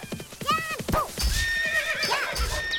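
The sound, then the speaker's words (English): A horse whinnies loudly, its shrill, wavering neigh rising and falling, followed by a second whinny over a few dull hoof thuds. “Turned around to whack that horse and there was one on its ass.”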